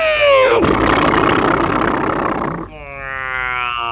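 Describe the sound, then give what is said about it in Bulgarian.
An approaching airplane's engine roars loudly, a whining drone giving way to a broad rushing roar, then settling into a steady, slowly rising engine hum, with no voices. “Внимание, внимание, настреща идва самолета!”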